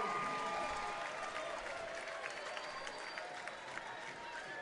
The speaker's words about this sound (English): The home crowd erupts as the boys in black and yellow lead 3-0.